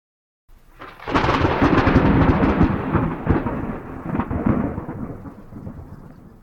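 A long, loud rumble of rolling thunder, rolling for the third and final time during a Masonic initiation ceremony, swells after a brief silence, rumbling continuously for several seconds before slowly fading, with a faint hiss like rain beneath it.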